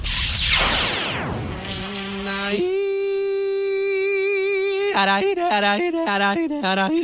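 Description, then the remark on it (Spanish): An insect buzzes loudly in flight, a harsh steady drone that then breaks into short choppy bursts, after a brief noisy whoosh at the start. “¡Vuela que vuela! Igual que el insecto chino.”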